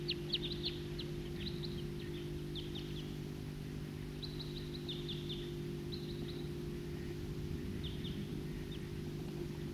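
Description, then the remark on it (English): A flock of wild birds calling, with clusters of quick, high chirps coming in bursts every second or two over a steady low hum. No one speaks. “It's recording Flock of Wild Birds.”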